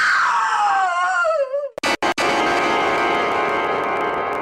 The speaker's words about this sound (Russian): как вдруг у нее открывается рот, и она кричит.